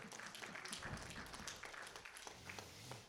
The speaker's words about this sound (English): Can you guys give him a nice little clap? Yeah.